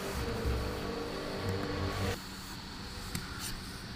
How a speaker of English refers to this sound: Now what you guys are hearing is my computer fan, and I know why.